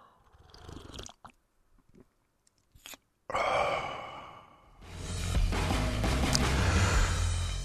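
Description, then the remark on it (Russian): Noisy slurping of a hot drink: a few short quiet sips, then two longer airy slurps drawn in loudly, with no talking. “Ну, я мог бы не прихлёбывать, но вы же тогда не поймете, что я так делаю.”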